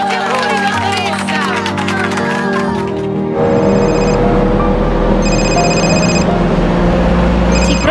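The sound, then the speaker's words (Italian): A telephone rings in two clear bursts with the start of a third, each about a second long, cutting through a busy, noisy background of murmuring voices and bustle. “Rispondere al telefono non è un incidente, è una scelta.”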